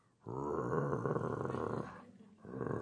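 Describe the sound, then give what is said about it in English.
A voice imitates a growling stomach with a loud, drawn-out guttural growl, then after a short pause starts a second growl. “That's a growl from the stomach, and it's a growl from the flesh.”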